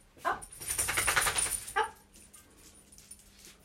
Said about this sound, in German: gerade weil jetzt unser Hund, der Tibor, gerade aufgestanden ist